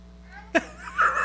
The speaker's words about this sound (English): Bless you. Bless you. Ooh, bless you.